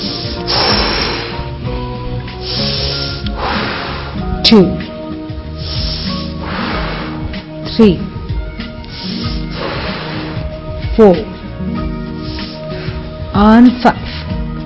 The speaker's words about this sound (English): Good. And again with the breathing.